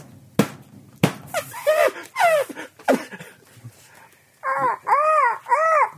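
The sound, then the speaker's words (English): Crows caw harshly in a scattered series, ending with three loud, evenly spaced calls, after two sharp smacking hits at the start. No one speaks. “The frightened crows took flight and never came back.”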